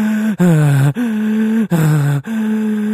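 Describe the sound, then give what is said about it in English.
A person imitates the panicked hyperventilation of police officer Yanez as captured on a dash cam: loud, voiced gasps alternating in and out, about five quick breaths in under three seconds, with no talking. “Like imagine breathing like that for 50, that's not Officer Yanez's fault.”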